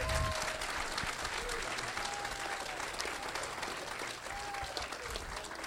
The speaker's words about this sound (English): Let's give Mark a big round of applause.